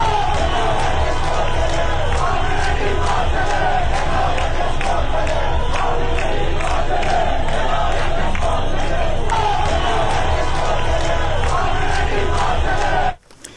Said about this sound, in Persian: تظاهرات و تجمعات اعتراضی روز جمعه برای هفتمین روز متوالی در تهران و دیگر شهرها ادامه یافت.